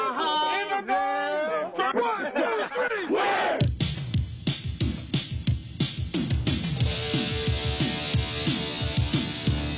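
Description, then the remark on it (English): A team shouts a group cheer together after a count of one, two, three, overlapping yells rising over a noisy crowd-like din before settling into a sustained, rowdy clamor. “Before we end this with a cheer, 3, 2, 3!”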